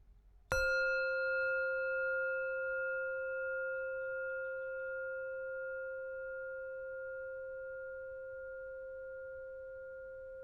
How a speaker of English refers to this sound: As always, in a moment I will ring the bell to start the meditation.